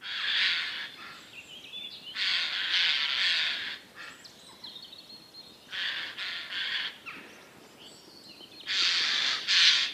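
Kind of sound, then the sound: bird, jay calling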